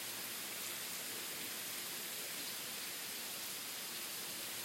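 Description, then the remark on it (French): Steady, soft hiss of sleet falling outdoors on an afternoon in rain and cold at about minus 2 degrees, a dense granular patter spread evenly across the whole stretch with no pauses. Fairly quiet and constant, with no voices. “Cet après-midi, il grésille. On peut entendre le bruit de la neige qui tombe.”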